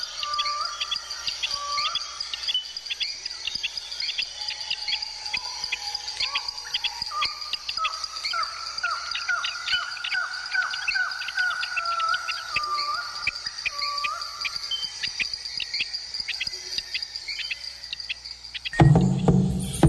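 A dense jungle chorus of birds singing and calling over a steady high drone of insects, with repeated chirps and whistled phrases throughout, ending in a brief burst of noise.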